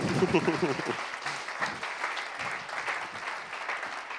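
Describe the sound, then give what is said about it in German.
An audience claps steadily for about four seconds in applause for the technicians, a dense crackle of many hands at moderate volume, with a voice briefly audible at the start over the applause. “Mal Applaus an unsere Techniker, oder?”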